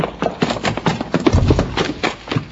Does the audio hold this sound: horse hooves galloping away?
yes